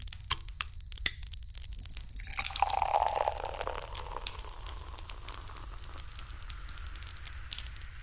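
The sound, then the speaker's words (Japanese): Beer is poured into a paper cup outdoors by a fire in a short, splashing burst about midway, preceded by a few sharp clicks and followed by a soft continuous crackle and hiss like a campfire. “あ、待って、紙コップについであげるね。”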